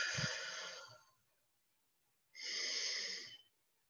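A yawn comes through as two long, breathy swells: a deep, airy inhale lasting about a second, a short pause, then a drawn-out sighing exhale. Fairly quiet, with no talking.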